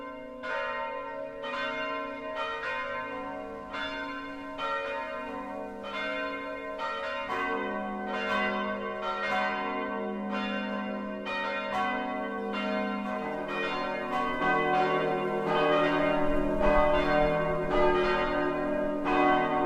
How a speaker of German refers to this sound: Es ist 12 Uhr. Das Mittagsläuten kommt heute von der evangelisch-lutherischen Christuskirche im unterfränkischen Partenstein.